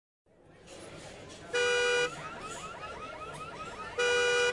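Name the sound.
car alarm going off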